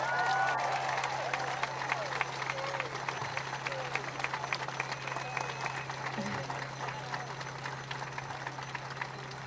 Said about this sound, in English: Can everyone give them another round of applause?